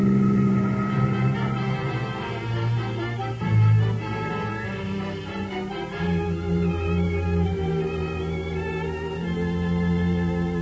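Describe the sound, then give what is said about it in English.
A car engine roars steadily, its droning hum rising and shifting pitch a few times as it accelerates in pursuit of a stolen Ford, with no voices. “Step on it.”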